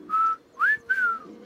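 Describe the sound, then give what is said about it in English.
Three clear whistled notes, apparently a person imitating an olive-sided flycatcher's song: a short level note, a quick rising note, then a longer note that slides gently down, fairly loud. “The olive-sided flycatcher has one of the most distinctive and catchy songs on the continent.”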